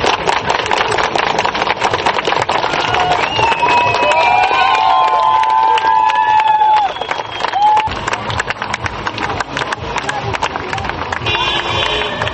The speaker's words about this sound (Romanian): Protestatarii au fost convocați la acest protest prin rețelele de socializare și nu au fost strigate niciun fel de lozinci antiprezidențiale sau antiguvernamentale, oamenii manifestându-și nemulțumirea, cum ați auzit, prin aplauze și claxoane.